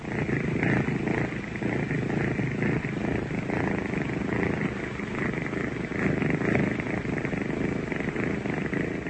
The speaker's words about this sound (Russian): Это обыкновенно-необыкновенный самарский кот, которого хозяйка зовет Мурзик, а продавцы из ближайшего мясного магазина называют Сосискиным.